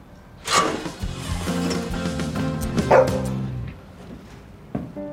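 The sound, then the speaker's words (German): A dog barks, a sharp yelp followed by a drawn-out, tonal stretch of barking and whining, then one last short bark near the end. No one speaks. “Sie krabbelt dem Hund hinterher durch einen dunklen Schacht.”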